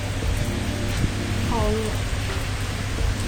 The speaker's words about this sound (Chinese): 杭州现在下大雨，阵雨。刚才我打了一个闪电和打雷。